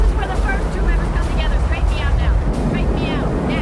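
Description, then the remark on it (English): Loud, steady roar of rushing river rapids as a boat reaches the first set of rapids, a dense churning wash of water filling the whole scene, with faint raised voices breaking through now and then. “They reach the first set of rapids.”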